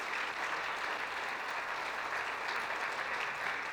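An audience at a morning service applauds the name of Jesus Christ of Nazareth, a dense, even wash of many hands clapping together for several seconds with no break and no voices standing out.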